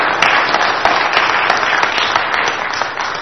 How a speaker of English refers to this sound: Let's thank them with some applause here for their willingness. Thank you.